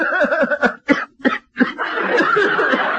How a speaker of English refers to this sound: I listen with my stethoscope. All right. Cough, please.